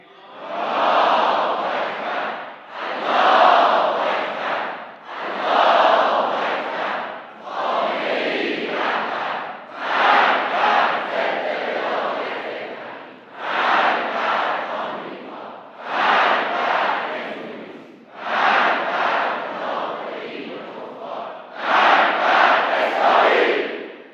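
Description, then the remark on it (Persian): A huge crowd at a 13 Aban rally in Iran chants in unison, roaring out about ten loud rhythmic bursts separated by brief pauses, the massed voices swelling and falling in a steady repeating pattern with no single speaker standing out. “صدای رعدآسای ملت در 13 آبان امسال بلند شد.”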